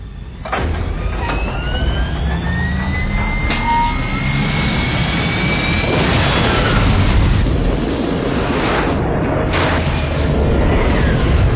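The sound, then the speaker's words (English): A spacecraft engine fires a deorbit burn in a sustained, loud roar with heavy low rumble, broken by sharp bursts and thin whistling tones that sweep upward. No one speaks. “Well, all right, stand by for deorbit burn.”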